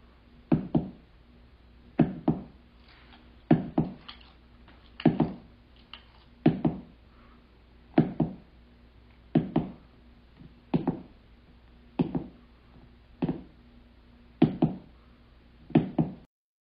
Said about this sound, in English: I commented on the Instagram page about the Fox sisters that I can make the noise with my toes that they were making. I'm standing on a wooden floor in sock feet with my phone in my hands, and here it is.